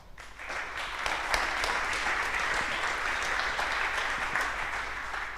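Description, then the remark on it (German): A crowd at an event breaks into steady, sustained applause for the bar staff, dense overlapping claps holding at an even loudness for several seconds with no voices standing out. “Applaus für die Bar.”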